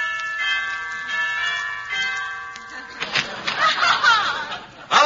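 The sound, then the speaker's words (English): A doorbell chime rings out with sustained, layered tones that linger for a few seconds, then gives way to laughter and chatter from people. “Yeah, I'll ring the bell.”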